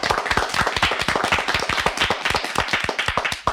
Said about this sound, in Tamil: அவர்களை கைத்தட்டி நாம் வரவேற்போமா?